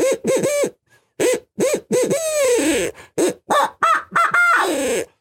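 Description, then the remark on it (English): A hunter blowing an ARO owl call: a loud, rapid series of about a dozen wavering hoots in quick bursts, imitating an owl's hooting, with brief pauses and no talking. “This is the ARO owl call.”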